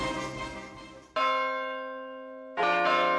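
A church bell rings loudly, struck about every second and a half, each stroke leaving a rich, humming tone that slowly fades before the next strike.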